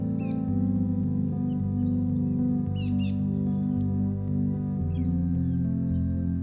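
Little birds chirp in quick, high bursts scattered throughout, layered over steady, sustained musical tones that play continuously underneath.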